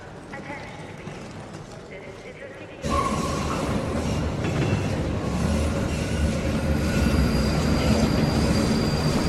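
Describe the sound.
A metro train heading toward Kreuzberg (Gneisenaustraße) rumbles along the rails with a steady, loud clatter that suddenly grows fuller partway through, with a brief high squeal and voices murmuring underneath.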